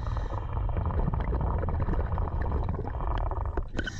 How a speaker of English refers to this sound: Next, scuba divers unclip the sub from the platform. And yes, you're hearing the actual sound of our actual diver doing the actual unclipping. He wore a GoPro just for us.